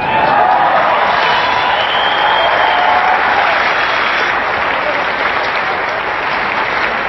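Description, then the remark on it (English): A large crowd claps loudly and steadily while scattered whoops and cheers rise above the applause, after Kevin McCarthy says it will be hard not to hit Nancy Pelosi with the gavel; the dense roar holds at an even level for several seconds. “Kevin McCarthy fantasizing about and getting big whoops from the crowd for describing hitting.”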